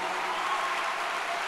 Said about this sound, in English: There you have it, ladies and gentlemen. Round of applause for Ryan Leslie and Hill Harper.